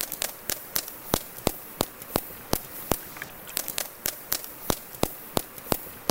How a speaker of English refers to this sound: Turns out the key to underwater echolocation is vocal fry. Yeah, that creaky voice that some people love to hate, only this time in a whale. Here's what it sounds like.